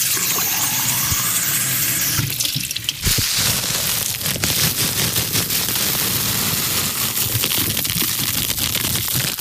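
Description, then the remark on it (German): Water runs steadily from a tap, a loud, continuous rush with a few brief clinks and knocks mixed in. No one speaks. “Dann abtropfen lassen. Wasser kochen.”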